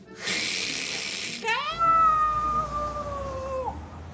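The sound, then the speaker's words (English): A voice imitates a noisy radiator under a window as its heat comes on: a loud, breathy hiss for about a second, then a long, steady, nasal whine that bends downward at the end, with no other sounds. “There's horrible noise coming from the evil box underneath the window.”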